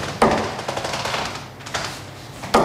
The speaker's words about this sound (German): So klingt es, wenn Finn Behrens 180 Punkte wirft. Bestwert im Dartsport. 3 Pfeile, 3 Volltreffer.